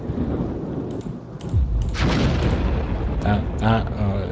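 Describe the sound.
A grenade explosion sound effect: a deep, booming blast bursts out after a low rumbling start and rolls on as a long, noisy roar; a voice briefly speaks over the tail end.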